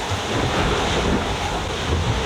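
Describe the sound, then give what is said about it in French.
Loud, continuous roar of strong wind buffeting the microphone over rushing waves and spray, a steady dense wash of noise with no pauses, on deck of a sailboat at sea in strong but not cold wind, the boat surfing fast. “Je sais pas si on entend l'ambiance du bord, mais c'est vraiment assez dur.”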